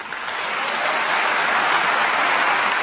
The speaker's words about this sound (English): Mr. Abbas was greeted by thunderous applause by foreign dignitaries and journalists gathered at the Paris headquarters of the United Nations Educational, Scientific, and Cultural Organization to celebrate the agency's latest member.